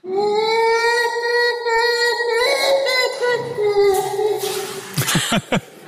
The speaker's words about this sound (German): Ein Gorilla. Es ist aus der SRF-Datenbank. Es klingt wie ein Delfin, der irgendwie Fieber hat. Aber es ist ein Gorilla.